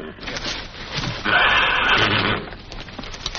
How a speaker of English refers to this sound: Oh, quiet. You're scaring the horse.